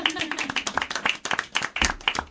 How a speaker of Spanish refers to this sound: Y nada, agradecerte estos cuentos que nos traes, que nos quedamos aquí todos embobados escuchándole. Venga, un aplauso.